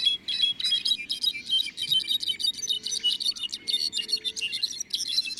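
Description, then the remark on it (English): Rufous-browed wrens sing flute-like songs in a lush forest reserve, a steady stream of quick, high-pitched whistled notes and trills echoing through the forest without pause, with no voices over them. “Flute-like voices of rufous-browed wrens echo through the forest.”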